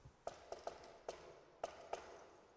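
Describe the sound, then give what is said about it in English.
A quiet series of sharp knocks on the door of a house in the countryside, tapped out in the familiar 'shave and a haircut, two bits' pattern: a quick cluster, a short pause, then two spaced final raps, with no voices. “Shave and a haircut, two bits. Knocked on the door, and nothing.”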